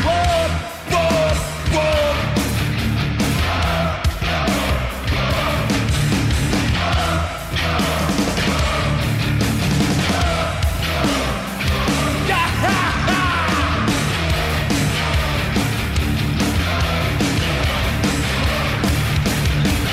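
A loud heavy metal band plays live, with driving drums and dense distorted guitars filling the whole 20 seconds while a crowd yells and roars along throughout.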